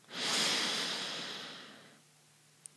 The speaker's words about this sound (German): Wechselseitige Nasenatmung, Pranayama. Denn zum Yoga gehört so viel mehr als nur die Körperübungen. Lass uns einatmen, ganz tief.